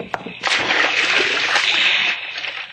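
A heavy coffin is carried over the side and plunges into the sea with a single loud splash, followed by a couple of seconds of churning, sloshing spray.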